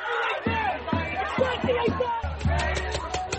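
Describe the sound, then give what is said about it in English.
A large crowd of clashing pro-Palestinian and Israeli protesters shouting at rival rallies, voices overlapping in loud, rhythmic bursts of chanting and yelling, with a steady swell of babble underneath. “Tensions flared with Israeli protesters accusing opposing rally participants of supporting terrorists.”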